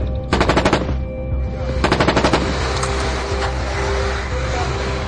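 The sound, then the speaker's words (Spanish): Two rapid bursts of machine gun fire aimed at a corner, each a quick string of sharp cracks lasting about half a second, separated by a pause, over a steady low rumble of engine-like noise. “Alguien está disparando a esta esquina de aquí.”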